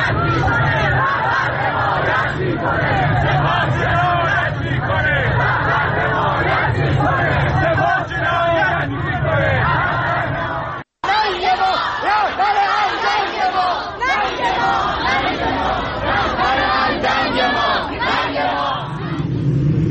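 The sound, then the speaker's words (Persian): A large protest crowd in Tehran, around Azadi Square and Habibollahi Street, chants slogans against the Islamic Republic's leadership in loud, rhythmic unison, voices rising and falling in repeated bursts over a constant roar, with a brief cut partway through before the chanting resumes. “به تعدادی از این شعارها و فایل‌های صوتی که بر روی شبکه‌های اجتماعی منتشر شده با هم گوش کنیم.”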